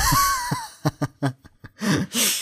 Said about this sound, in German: Ja, ja. Ich bitte auf so zu atmen. Entschuldigung, warte. Du machst immer so. So besser? Ja, also bitte hör auf, immer so krass Luft zu holen. Das ist sau ekelhaft